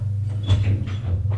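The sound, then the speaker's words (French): A door is opened: a brief latch click and soft rattling scrape over about a second, set against a steady low hum. “Ouvre une porte.”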